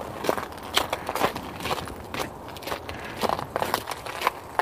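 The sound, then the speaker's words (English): Footsteps crunch across icy spots on a sidewalk along West 20th in a steady walking rhythm, each step a crisp, gritty crackle, about ten in all, with no voices over them. “I don't know if you can hear those ice crunching underfoot or not.”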